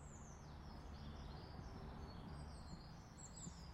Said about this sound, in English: But as you can hear in the background, so much bird song.